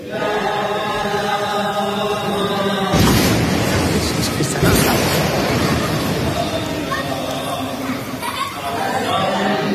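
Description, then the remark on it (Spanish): Voices of people praying sing together, then two loud, close bomb blasts boom out a couple of seconds apart, rumbling over the singing, which carries on steadily afterward. “Se oyen unos bombazos que están se ve que están muy próximos.”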